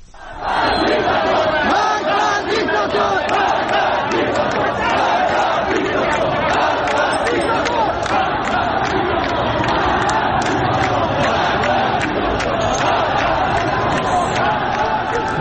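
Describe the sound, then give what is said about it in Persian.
A large, agitated crowd of protesters in Ahvaz roars and shouts continuously, with overlapping yells and cries that stay loud and dense throughout, as they clash with a police riot-control vehicle. “در اهواز تجمعی رخ داده که معترضان با خودروی ضد شورش نیروی انتظامی درگیر شدن.”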